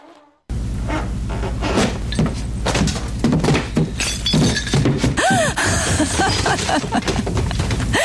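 A person crashes through a floor down to the first floor, a loud crash followed by several seconds of splintering, cracking and thudding debris over a deep rumble, with no voices.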